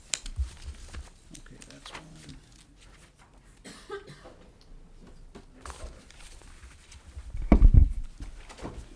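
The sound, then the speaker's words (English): Paper handouts from XL Energy, including a fact sheet on property taxes paid by utilities, being passed out to a committee: soft, intermittent rustles and shuffles of sheets with light taps, faint murmuring voices, and a louder low thump near the end. “I do have some handouts I'd like to distribute to the committee, if that is perfectly acceptable, okay.”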